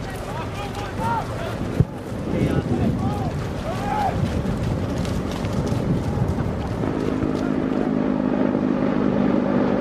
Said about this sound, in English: Lines of AAVs already fill the bay, churning through choppy water. As the first troop carriers reach the sand, attack helicopters escort them from above.